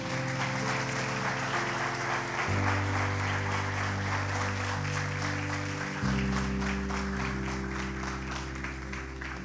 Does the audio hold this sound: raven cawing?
no